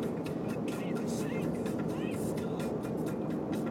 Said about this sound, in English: Actually, I think the answer is that the College of Marin is back in session, and whenever College of Marin is back in, the traffic gets bad through here.